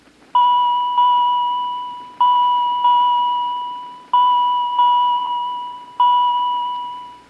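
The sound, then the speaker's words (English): Pennies dropping into a payphone as a customer makes a call, heard as a series of bright bell dings, mostly in quick pairs, each ringing out and fading before the next, clear with no talking. “Okay, first they have to put in the money.”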